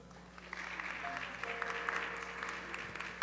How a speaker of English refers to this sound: Hallelujah. Oh, I love it. Please clap.